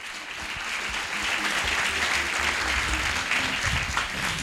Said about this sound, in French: On peut l'applaudir déjà, encore une fois, ouais, clairement.